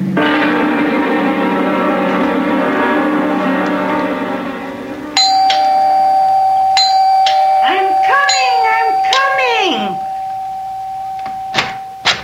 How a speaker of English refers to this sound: Have to rip the bell off the door, young man. I'm sorry about that.